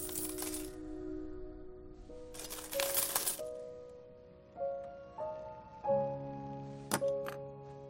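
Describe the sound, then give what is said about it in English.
Two bursts of jingling, rushing coin clatter as a woman slides her hands through a mound of pennies, with sustained ringing metallic tones lingering between them and a few sharp clinks near the end. “Sliding her hands through the penny mound, she finds a seashell”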